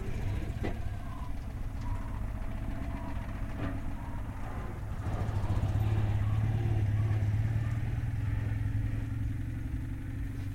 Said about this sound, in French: C'est très bruyant. Autrement, on reconnaît le son de la deux chevaux. On entend quand la deux chevaux passe. Quand c'est une deux chevaux passe, on sait tout de suite qu'une deux chevaux passe.